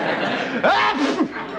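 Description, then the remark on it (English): A single voiced sneeze bursts out mid-clip, with a sharp intake and a throaty, somewhat drawn-out release over a steady background hiss. “God bless you,”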